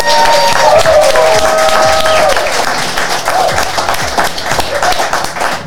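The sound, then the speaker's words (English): An audience breaks into sustained, loud applause for the evening's guests, dense clapping running throughout, with a few whistles and cheers rising over it early on before the clapping thins slightly toward the end. “How about a round of applause for our guests tonight?”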